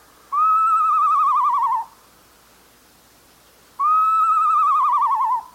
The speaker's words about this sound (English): If it sounds like someone learning to play a recorder, it's a northern saw-whet owl.